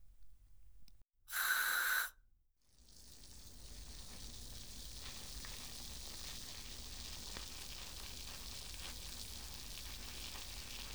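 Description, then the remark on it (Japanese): A brief loud spray burst as more carbonated shampoo foam is added, then a steady fizzing and crackling of the foam wrapped around the scalp during a hair wash and scalp massage. It continues evenly to the end, with tiny pops scattered through the hiss. No one speaks. “私はパチパチの泡、この追加したたっぷりの泡で頭皮を包み込むように。”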